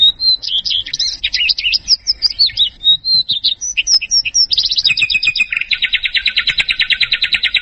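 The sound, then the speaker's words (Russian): Clear, close birdsong: a rapid series of varied high chirps and warbles, ending in a long fast buzzing trill, with no voices present. “в Британии приобрела уникальная радиостанция под названием «Birdsong» – «Птичья песня», которая ежедневно передавала только пение птиц.”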